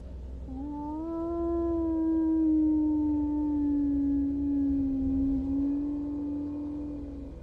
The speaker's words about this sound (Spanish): y eso avanzaba cada vez más de patio en patio, hasta que, como si eso pudiera saber que estaba despierto, aulló varias veces en la misma dirección. Aullaba hacia mi casa.